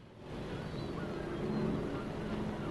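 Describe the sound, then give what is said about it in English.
A small motorboat engine drones steadily with a low, throbbing hum, mixed with wind and water wash, growing slightly louder as the boat motors across the ocean towards a ship; no one speaks. “He looks out across the ocean as a small boat motors towards the ship.”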